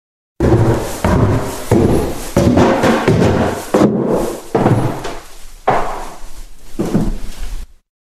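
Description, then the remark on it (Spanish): A door is opened at night, with a series of loud wooden clunks, scrapes and rattles spread over several seconds and no voices. “Esa noche, aprovechando que él estaba durmiendo, abrí la puerta.”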